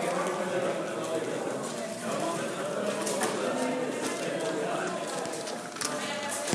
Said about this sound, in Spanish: Se oye más nítido el clic clic clic de los papelitos. Así suena.